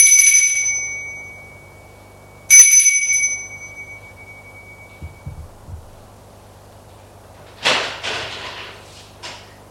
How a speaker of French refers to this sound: Il est entré dans un vieil immeuble lugubre de 3 étages. Sonne à la porte de droite du palier du 2e étage.